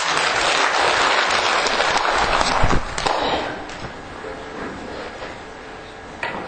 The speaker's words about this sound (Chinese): 好，谢谢，给他们鼓掌一下吧。